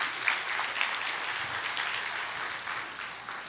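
Audience applause, a dense, steady wash of many hands clapping at once, fairly loud and sustained throughout with no voices standing out above it.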